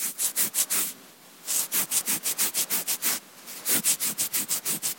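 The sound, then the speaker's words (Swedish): Someone scratches an itchy mosquito bite in quick, rhythmic strokes, a dry, raspy scratching that comes in three bursts separated by brief pauses, with no voices. “Här hörde vi ju det som oftast följer på surrandet när man har blivit biten.”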